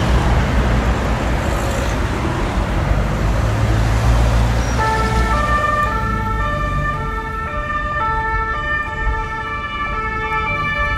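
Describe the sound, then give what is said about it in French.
Sirens of arriving CRS riot police vans wail over steady, heavy traffic noise as the vans pull up and park behind a convention centre, their stacked tones cutting in partway through, with the engine rumble continuing underneath. “Donc là, le bruit que vous entendez, eh bien, c'est des sirènes, vous avez reconnu, des cars de CRS.”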